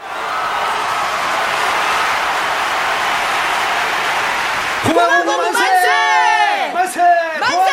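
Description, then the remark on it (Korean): A crowd of tens of thousands watching an execution by axe: a steady, hissing roar fills the first five seconds, then many voices burst into loud cheering, with overlapping shouts and whoops that swoop up and down in pitch. “숨을 죽이고 전율한 채 앉아있던 수만의 군중들은 요란한 함성을 질렀다.”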